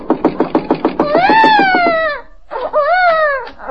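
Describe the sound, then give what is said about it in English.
A baby left alone in a house cries: a quick run of choppy, hiccuping sobs builds into a long, high wail that slides downward, breaks off briefly, then comes back as a second shorter wail. “Leaving a baby in a house alone.”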